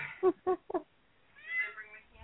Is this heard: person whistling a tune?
no